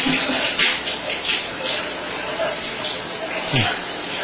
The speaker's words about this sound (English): Well, I'm sure it sounds just like anybody getting out of the shower.